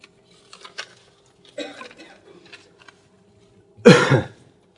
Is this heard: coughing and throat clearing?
yes